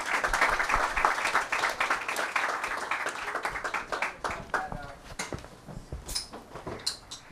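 A crowd applauds with dense, sustained clapping that gradually thins out, leaving a few scattered claps and light stage noises toward the end, as two guests are invited to join the hosts on stage.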